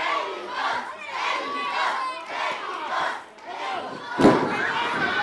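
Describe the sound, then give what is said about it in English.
An excited crowd of townspeople roars and shouts continuously around a lucha libre ring set up on a narrow street in the town center of Magdalena Culhuacán, on the outskirts of Mexico City. A dense wash of voices rises and falls, with a sharp thud near the end as the noise swells again. “The townspeople crowd around, excited.”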